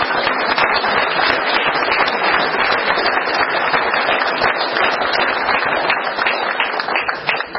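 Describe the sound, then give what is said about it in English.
A crowd applauds a woman being introduced, steadily, a dense, loud wash of many hands clapping at once, crackling and unbroken for several seconds with no voices on top. “Please, everybody, give her a real big round of applause.”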